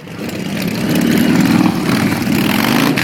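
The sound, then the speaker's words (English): Motorcycle engines at the Sturgis Motorcycle Rally in South Dakota rumble in a steady, loud drone that swells in the first second, then holds as a dense, continuous roar of several bikes idling and revving together, with no voices. “For the third year in a row, ethanol had a major presence at the Sturgis Motorcycle Rally in South Dakota and the legendary Buffalo Chip Campground, where many of the 500,000 bikers who attend the event stay.”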